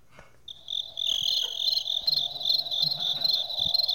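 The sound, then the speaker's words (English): A person mimics cricket chirping close to the microphone, a continuous high, shrill trill that starts after a brief pause and holds steady and fairly loud with a faint pulsing texture, no talking. “I realized recently that if I make cricket noises into the microphone, the crickets stop, and I want to try it again, because maybe it was just coincidence that they all got laid and didn't need to cricket anymore.”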